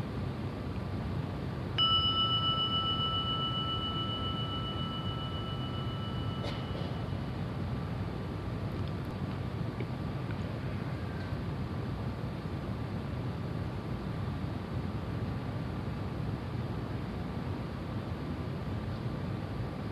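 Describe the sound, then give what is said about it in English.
A single gong strike rings out clearly, its bright metallic tone hanging and slowly fading over several seconds against a steady background hiss. No one speaks. “Let the sounding of the gong be an invitation to maybe let go just a little more of the armoring to arrive.”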